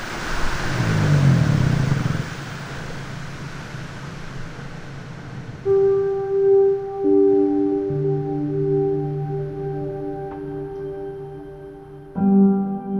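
An underwater recording from polar waters: a low, rumbling wash gives way to long, steady droning tones in layered pitches, sustained and eerie, with a fresh burst of tones near the end.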